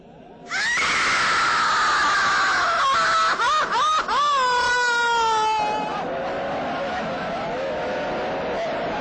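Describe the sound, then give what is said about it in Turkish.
Loud, anguished crying with long wailing, sobbing cries that rise and fall, intense for several seconds before trailing off into a quieter, continuing moan. “Ağlama sesi.”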